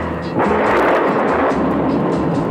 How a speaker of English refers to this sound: farmlands around Springfield, Tennessee, and the lightning slashes the hills and the thunder rolls down the valleys.